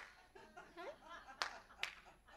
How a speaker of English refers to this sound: And for some of us who want it even easier, we can clap. Right? You got that clapper thing? Clap on.